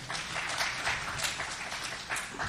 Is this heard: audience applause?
yes